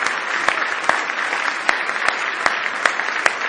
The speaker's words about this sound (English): Isn't it good to be in church on Sunday morning? Give the Lord a good hand clap of praise if you love Him this morning.